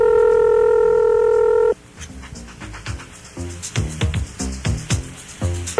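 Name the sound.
telephone keypad dialing tones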